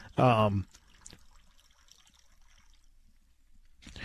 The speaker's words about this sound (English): There's the water again.